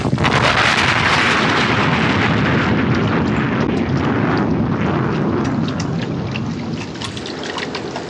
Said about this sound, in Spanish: Se escucha una formidable explosión. El disparo ha hecho estallar las balas de la lancha, que salta hecha astillas. Un impacto certero y letal. La lancha se hunde en medio de remolinos y espuma.